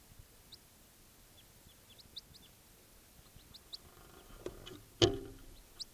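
A bird calls with a series of short, high-pitched chirps repeated at irregular intervals, fairly faint over a low background hiss, with a sharp thump near the end.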